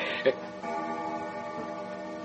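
A grandfather clock made by John Atchison of Leith ticks slowly and steadily, its soft clicks set against a low, humming background, with one sharper knock near the start.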